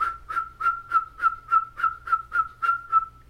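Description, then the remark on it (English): A high eagle bone whistle shrills in a fast, steady rhythm, about ten sharp piercing blasts in a row, loud, with a low rumble in the background. “Just on the other side, this small little Mitigunabe, this small little lodge with a little drum and little boys sitting there, little girls on that side, little boys on this side with their little eagle whistles.”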